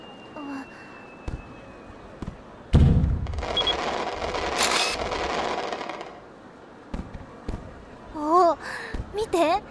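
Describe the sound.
Fireworks bang close by as people take a photo of themselves together with the fireworks: sharp scattered pops, then a loud booming burst followed by several seconds of crackling rumble. A few more pops land near the end as a voice briefly speaks.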